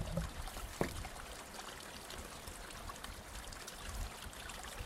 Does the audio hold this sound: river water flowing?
yes